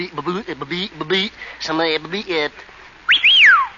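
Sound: person whistling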